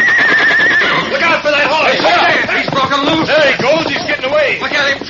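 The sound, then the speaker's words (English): A horse that has broken loose neighs loudly and repeatedly, its shrill whinnies rising and falling over about five seconds, with faint hoof clatter and commotion underneath. “Look out for that horse! Hey, he's broken loose!”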